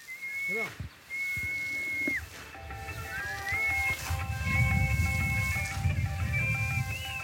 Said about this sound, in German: Zwei pfeifende Mädchen auf einem alten Dreschplatz. Um die Spreu vom Korn zu trennen, werfen sie das gedroschene Getreide mit Holzforken in den Wind. Sie pfeifen die alten Melodien, wie sie über Jahrhunderte bei dieser Arbeit gepfiffen wurden.